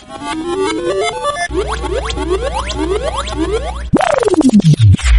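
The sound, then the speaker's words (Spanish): A loud, cartoonish game-show musical roulette effect, activated by pressing a digit on a phone: rising electronic tones and repeated springy boing sweeps, then a fast run of descending ticking notes that slow down as if a wheel is stopping. “Se activa la ruleta musical para el pato.”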